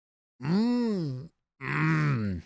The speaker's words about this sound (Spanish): Gruñe.